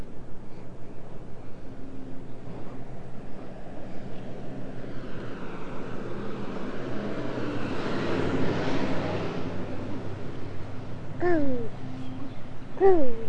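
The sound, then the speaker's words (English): A car drives by, its rushing noise swelling gradually and then fading over a steady low rumble, followed by a few short, high, downward-sliding chirps. “You hear that car going by and you said bump, bump?”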